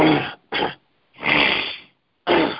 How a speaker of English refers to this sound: Yeah, somebody said something about the clearing in my throat coming across on the airways. I got an allergy or something. I don't know what it is.